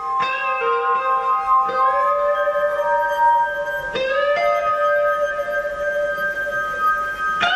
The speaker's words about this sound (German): in Venedig einen Glashafenspieler in der Fußgängerzone trifft.